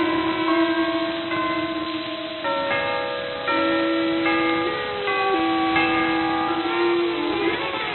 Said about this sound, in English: Hold on, boys. The chimes are going to play.